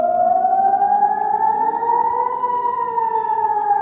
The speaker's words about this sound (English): The attacks on Tuesday sent Israeli civilians running to bomb shelters as air raid sirens wailed.